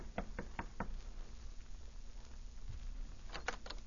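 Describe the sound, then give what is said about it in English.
Four firm knocks on the wooden door of a suite in the evening in quick succession, a short pause of quiet, then three more knocks near the end, fairly loud. “She sent a message to Bradford White through Tex, and White knocked on the door of her suite the following evening.”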